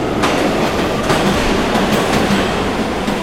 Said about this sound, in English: This is a subway station.